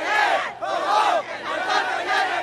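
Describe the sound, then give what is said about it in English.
A large crowd yelling and cheering as word of the torch's approach comes over people's cell phones, many voices overlapping in loud, swelling waves of shouts that rise and fall in quick surges. “When word of the torch's approach started coming over people's cell phones, everyone burst into cheers.”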